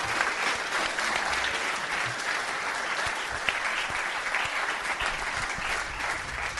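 Steady, dense applause from an audience, many hands clapping at once in a continuous wash of sound that holds an even level for several seconds without voices.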